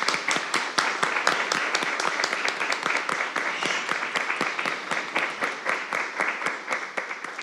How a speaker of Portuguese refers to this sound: Vamos aplaudir, amigos.